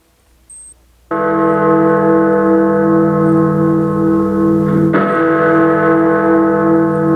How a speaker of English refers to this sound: The chimes of Big Ben mark the hour of 9 p.m. in London